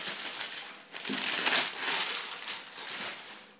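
Continuous crinkling and rustling of packaging material while a parcel of glasses is unpacked, with bursts of crackly crumpling rising and falling over a few seconds, no voices.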